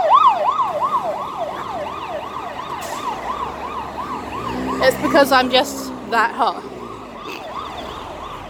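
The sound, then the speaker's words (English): A fire engine siren wails in a fast, steady warble for the whole stretch, while someone briefly speaks over it partway through before the siren carries on, slightly fainter. “Oh, it's fire brigade.”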